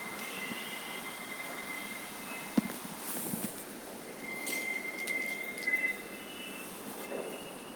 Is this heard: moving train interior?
yes